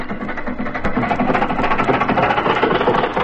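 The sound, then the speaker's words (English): The engine of a sightseeing bus touring an island runs steadily, a continuous rumbling drone with a busy, rattling texture and no pauses or voices over it. “And then we board a sightseeing bus to tour the island.”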